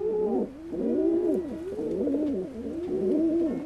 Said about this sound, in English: It's easy to imagine, when hearing soft cooing sounds like these, why baby pigeons would rather stay in the nest.